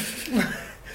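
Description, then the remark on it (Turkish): A short voiced yawn rises briefly and fades, a low drawn-out vocal exhale against faint background noise. “O esneme sesleri.”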